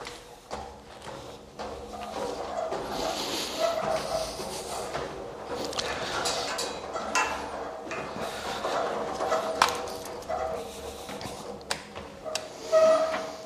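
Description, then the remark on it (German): Footsteps tap down wooden cellar stairs at a steady walking pace, with faint creaks and a brief squeak near the end, against a muffled indoor background. “Es quietscht etwas, aber das hat nichts zu bedeuten.”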